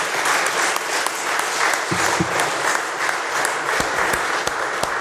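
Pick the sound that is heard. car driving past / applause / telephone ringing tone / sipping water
applause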